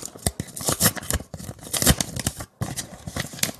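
envelope being torn open

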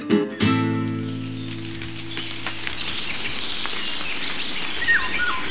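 rain falling outdoors

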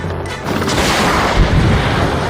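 cannon firing boom

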